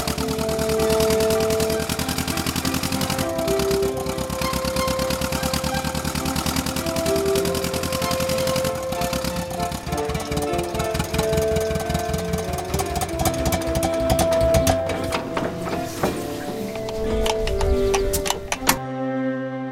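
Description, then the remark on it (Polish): A tractor engine chugs in a fast, steady rhythm, loud, as the clutch is released and the tractor moves off, driving a loop, with melodic tones from music played on the tractor and instruments throughout, until everything cuts off abruptly near the end. “Puszczamy sprzęgło i traktor rusza.”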